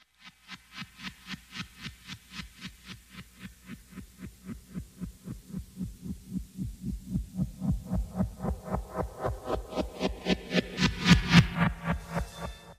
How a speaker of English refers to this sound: So if we see helicopters and hear that, we know it's helicopters, but it is helicopter sound, is it? Yeah, but that's the really important thing. I'm glad you picked up on that, because that doesn't sound like a real helicopter in real life.